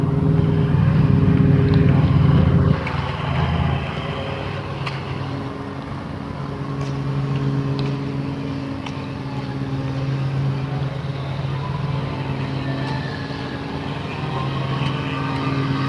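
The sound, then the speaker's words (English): Motorized lawn equipment run by a lawn crew drones steadily outdoors in the morning, a continuous engine hum that is loudest for the first few seconds, then settles into a slightly softer, unbroken rumble with a few faint clicks. “Lawn crew down here on the side.”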